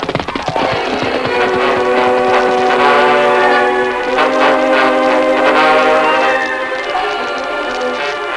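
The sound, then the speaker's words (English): A work train heading for a siding rumbles steadily along the rails while its horn blares in long sustained tones, loud throughout, with no voices. “Sounds like the work train coming now, Lou.”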